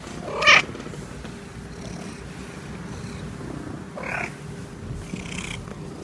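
A cat, recorded on a tape recorder for phonetic study, gives a short, soft call, then settles into a steady, low rumbling purr, with a couple of brief, quieter vocal chirps over the purring.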